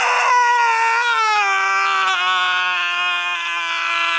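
A man who has lost his right hand lets out one long, loud scream of pain, a high, strained cry held for about four seconds, its pitch sagging slightly lower as it goes on.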